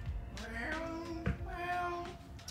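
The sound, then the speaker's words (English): A cat on a ranch meows twice in a row, each call long and drawn out with a wavering pitch, clear over a low background rumble. “I love hearing my animals, especially my cat.”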